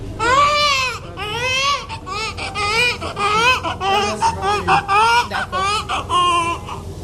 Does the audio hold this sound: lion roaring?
no